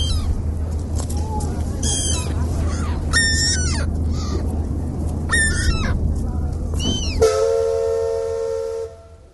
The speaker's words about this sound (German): Das waren gerade ein paar Geräusche vom Hafen. Und, habt ihr was erkannt?